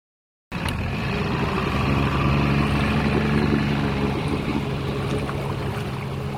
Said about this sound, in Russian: По ручейку он добрался до большой реки. Но долго кораблику плыть не пришлось. По реке проехал большой катер.